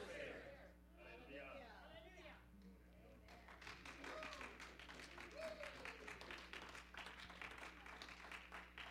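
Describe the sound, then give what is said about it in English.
A church audience breaks into steady, dense clapping after a few seconds of voices, the many hands blending into a continuous rattling applause that carries to the end, with talk underneath. “These are over here are clapping.”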